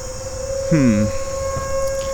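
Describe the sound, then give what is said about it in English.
A steady tornado warning siren tone drones without a break from start to finish, while a brief voice sound rises over it midway and low rumbling fills the background. “These tornado sirens are already starting to drive me crazy.”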